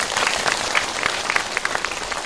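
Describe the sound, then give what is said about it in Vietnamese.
An audience breaks into steady applause, many hands clapping together in a dense, continuous patter for a couple of seconds with no voices over it. “Một tràng vỗ tay.”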